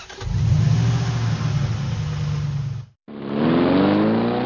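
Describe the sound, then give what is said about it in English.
A big truck engine revs loudly, a deep rumbling burst that cuts off briefly before a second rev climbs steadily in pitch. No one speaks. “Maybe some do, but I think most people just think they look cool driving a huge truck.”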